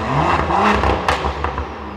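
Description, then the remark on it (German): A loud, tuned car engine revs hard at a tuning fair, its throaty roar rising and falling with crackling, rattling bursts over a constant low rumble, no voices. “Manche aber auch so richtig laut. Schließlich hat man ja einiges investiert in so ein getuntes Auto.”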